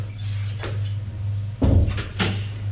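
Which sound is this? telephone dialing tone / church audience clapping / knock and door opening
knock and door opening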